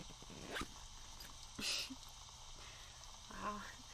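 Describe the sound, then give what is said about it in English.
A zipper rasps closed in a few short, quiet pulls, with soft rustling of fabric between them, all fairly faint. “Now you can zip us back up.”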